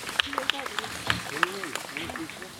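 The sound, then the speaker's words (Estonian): Scattered hand claps from an audience at a South Estonian accordion music event ring out at irregular intervals after a performance, sparse rather than a full ovation, with voices murmuring and talking underneath throughout. “Järgnevaks on meil ja aplaus õigus, aitäh.”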